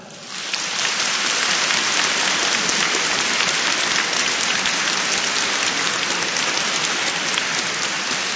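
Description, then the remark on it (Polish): A crowd applauds steadily to welcome Radio Maryja listeners at a 2009 regional meeting of children's rosary circles in the church of Saints Peter and Paul, parish of St James the Apostle; a dense, even patter of many hands clapping that starts abruptly and holds at a constant loud level for about eight seconds, with no voices. “Gorącymi oklaskami, radosnymi sercami, z uśmiechem na twarzy witamy wszystkich słuchaczy Radia Maryja, którzy teraz są razem z nami.”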